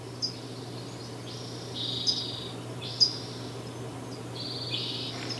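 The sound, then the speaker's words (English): A hushed spring forest at Sugarloaf on April 15, 2015, with no wind and the stream dried up; a few faint bird calls, thin high chirps and short buzzy phrases scattered sparsely over a steady low background hum, the birds mostly quiet. “Bernie could see birds in the trees, but they were mostly quiet because to sing takes energy.”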